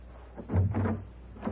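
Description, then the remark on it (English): A door opens with a short wooden clunk and rattle of the latch, followed moments later by a lighter knock-like bump. “Open the door.”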